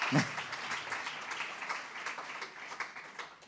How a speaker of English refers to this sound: So if I have to tell you to clap, then I must have to tell you to say amen later.